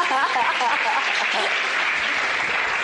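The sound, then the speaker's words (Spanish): An audience applauds steadily for a few seconds, a dense, even clatter of many hands, with voices calling out over it at the start before the clapping carries on alone. “Un aplauso para mi diamante.”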